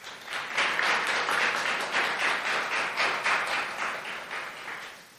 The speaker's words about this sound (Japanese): 私たちと同じ新成人の4人にメッセージを発表していただきました。同じ思い、共感できる部分も多かったのではと思います。発表してくださった4人の方に今一度拍手をお願いします。